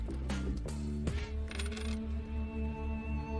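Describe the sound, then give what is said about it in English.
The contents of a purse are poured onto a desk. Small items clatter and clink in a quick burst of sharp hits during the first second or so, followed by a steady tonal hum with a regular low pulse. “She pours the contents on the desk.”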